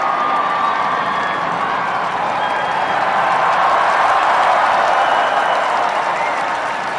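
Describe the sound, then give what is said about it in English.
A large crowd in St. Peter's Square cheers and applauds the Pope's Easter Sunday appearance, a dense, sustained roar of voices and clapping in the open square that stays loud and steady throughout, with occasional whoops rising above it. “He was last seen in public just yesterday when his Easter Sunday appearance prompted huge cheers from crowds in St. Peter's Square.”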